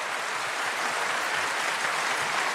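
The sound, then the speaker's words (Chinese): Enthusiastic applause from a large concert audience after Chen Guanyu's performance of a romantic piece with an orchestra, many hands clapping at once in a dense, steady roar that holds at an even loudness throughout, with no voices standing out. “在观众热烈的掌声中，陈冠宇成功的演奏出这一首浪漫的乐章。”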